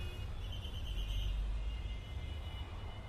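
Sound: traffic jam street noise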